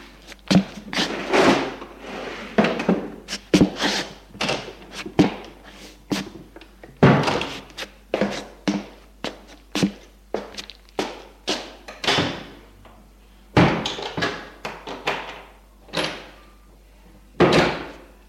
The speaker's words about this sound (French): Pour s'amuser, ils ouvrent les tiroirs et les placards.